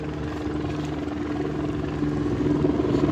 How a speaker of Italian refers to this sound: Vengono catturati con delle reti per poi essere immessi in alcuni grandi contenitori e visto che questo corso d'acqua attraversa una valle impervia, per spostarli ci vuole l'elicottero.